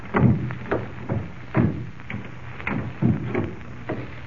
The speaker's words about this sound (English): As quietly as possible, they crept up the creaky old stairs.